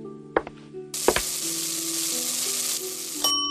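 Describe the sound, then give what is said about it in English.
Food sizzles steadily in a hot pan as dinner is cooked, a bright hissing crackle that starts abruptly after a couple of sharp clatters and holds loud and even for a few seconds over a low hum. “Now, let me cook it for our dinner.”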